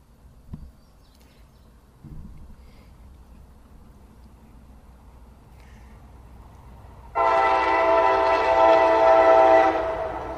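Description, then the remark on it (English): A two-car train with two engines rumbles low and steady, then a loud, sustained multi-toned horn blares for about three seconds before starting to fade. No voices are heard. “This is a bigger one. It's two cars. Two engines.”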